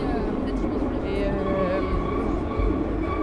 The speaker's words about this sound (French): Me voici dans le métro.